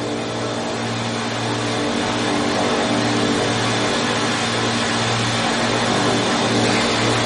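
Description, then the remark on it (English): A steady, loud engine roar holds throughout, with a low droning hum that pulses gently and a broad hiss above: the engines of the bomber O Orange as it takes off, its brakes off, rolling slowly down the runway and gathering speed. No voices. “O Orange moves slowly off down the runway, gathering speed as she goes.”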